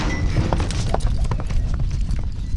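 Horse hooves pound across the dirt of a dusty rodeo arena in the desert on the outskirts of Tucson during barrel racing practice, a quick, uneven series of thuds, steady throughout, over a constant low rumble of outdoor arena noise.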